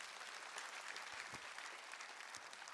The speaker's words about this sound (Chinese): 如果这也是你的信仰，我们拍手来赞美我们的神，哈利路亚。